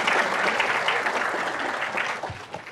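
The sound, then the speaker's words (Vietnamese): An audience breaks into steady, sustained applause, dense and even throughout, with many hands clapping at once before it begins to thin slightly at the end. “Bác con cho một tràng pháo tay.”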